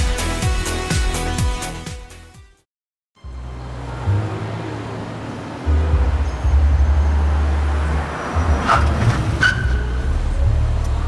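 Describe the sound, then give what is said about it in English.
A short musical sting ends, and after a brief pause a car's engine rumbles in, growing louder as it pulls up and arrives at Snake Manor, with a faint squeal near the end as it comes to a stop. “We've arrived at Snake Manor. Are you two still in car?”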